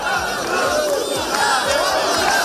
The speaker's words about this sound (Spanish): Ayer sí, ayer sacaron gente a la calle, dicen ellos que sacaron 30.000, no fueron tantos, pero había varios miles de personas diciendo que la solución, gritando que la solución al problema de las cercanías en Cataluña es independencia.